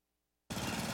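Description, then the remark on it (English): A lawn mower engine kicks in abruptly after a moment of silence and runs loud while someone mows the lawn outdoors in blazing hot, dry weather, with a rough, rapid chugging rumble under a steady roar. “I'm just mowing the lawn.”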